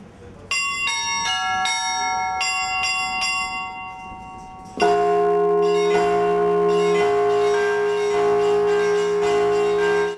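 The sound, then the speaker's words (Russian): Fast, intricate Moscow-style church bell ringing, joyful and festive in the Easter manner: a quick run of smaller bells chiming in varied patterns, then a heavy low bell joins and the full peal rings out loud and dense. “Московские звоны. Они такие быстрые, разнообразные по рисунку.”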